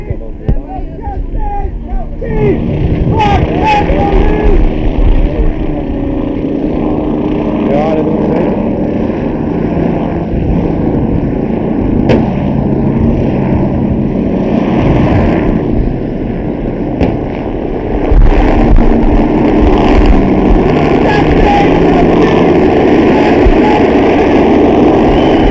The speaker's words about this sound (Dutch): Nou, de helikopter is zeer aanwezig. Vliegt laag. Ik heb hem nooit zo laag gezien.